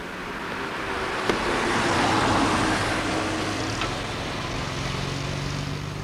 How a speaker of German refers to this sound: Kommt hinter uns ein Wagen.